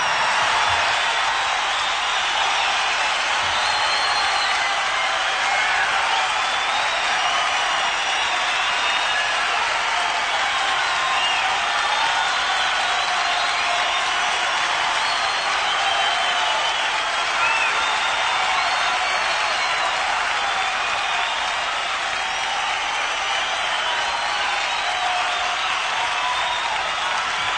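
A concert crowd applauds for an encore: dense, continuous clapping mixed with crowd noise, holding at a steady, loud level for the whole stretch without any clear talk.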